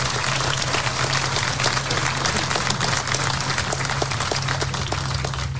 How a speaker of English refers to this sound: And I think he deserves a round of applause for that.